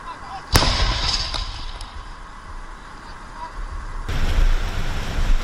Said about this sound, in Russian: Чуйно, артилеристи вже з Д-30-х нанесли ураження осколковими, значить, по скупченню піхоти. І, як кажуть, відпрацювали вдало.